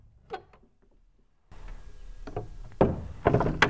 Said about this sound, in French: La seule chose qui vint troubler la prière du Père David, ce fut le grincement de la porte de l'église.